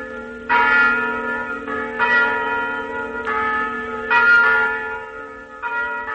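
Church bells peal loudly in a churchyard in Cotoca, with repeated ringing strikes every second or so layered over a sustained, humming resonance. No voices are heard.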